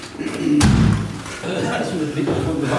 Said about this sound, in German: Moment, ich mache die Tür noch.